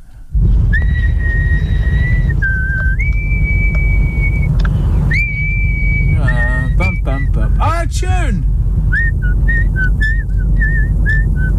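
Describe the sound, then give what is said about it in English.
Someone whistles a clear, bright tune, with sustained notes, quick warbling slides and a run of short repeated notes, over a steady low rumble like a car interior. “You should be Brazilian, not Irish, with your whistling ability.”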